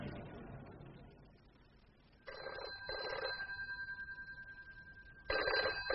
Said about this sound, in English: Oh, there's a bell ringing somewhere. Damn.